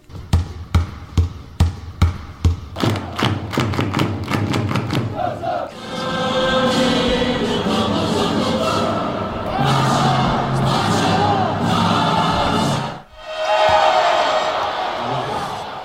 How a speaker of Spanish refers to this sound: Esa bocina mítica de pabellón.